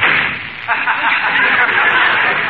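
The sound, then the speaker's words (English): A door slams shut with a single heavy, sharp bang, followed by a sustained wash of hissy noise. No one speaks. “Close the door, will you, honey?”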